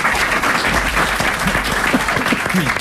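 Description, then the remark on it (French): A studio audience on a Europe 1 radio show claps steadily throughout for the guest, Pierre Palmade: a dense, continuous patter of many hands, with faint voices murmuring underneath. “Oui, c'est l'invité qu'il faut faire applaudir, c'est pas l'animateur.”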